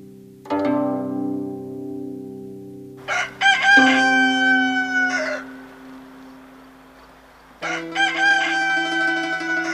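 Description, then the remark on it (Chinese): A rooster crows loudly in long, drawn-out calls, three crows in close succession with strained, harmonic-rich tones that rise and hold before trailing off. No one is speaking. “鸡啼咯，叫醒老爷先。”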